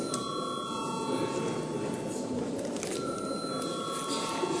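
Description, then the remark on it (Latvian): A continuous electric bell rings steadily for several seconds, a sustained bright metallic tone with a buzzing edge, summoning members of parliament to vote on the 12th proposal over a low murmur of the chamber. “Paldies, lūdzu zvanu.”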